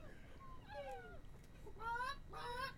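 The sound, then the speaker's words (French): A hen clucks in a few drawn-out, wavering calls spaced over a couple of seconds, clear above a low background rumble. “Je sais pas, j'ai l'impression d'entendre peut-être une poule.”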